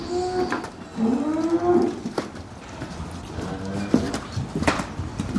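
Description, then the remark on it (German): Dairy cows moo in a barn, several long low calls overlapping one another, with a steady rustle and occasional clanks in the background and no talking. “In Deutschland kommen 70% der Milchkühe nie auf die Weide.”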